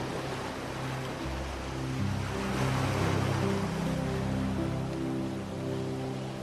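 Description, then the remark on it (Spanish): Ocean waves wash steadily onto a beach, a continuous rushing surf that swells to a fuller crest midway, then eases back, with a soft, low humming tone lying underneath. “Disfrutas de las vistas al mar y de la variedad del paisaje.”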